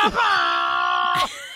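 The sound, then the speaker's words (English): A person's voice mimics an air horn with one loud, sustained blare lasting about a second, held at a steady, brassy pitch before cutting off abruptly. No other talking accompanies it. “That sound. That's me doing an air horn.”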